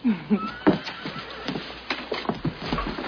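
horse neighing

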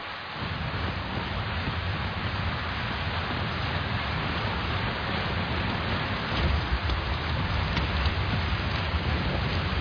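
rain falling

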